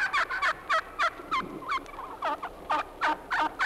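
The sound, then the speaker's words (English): A Florida wild turkey gobbles in a rapid series of rattling, throaty bursts, a dozen or so quick repeated calls, clear with no talking. “That was a Florida wild turkey.”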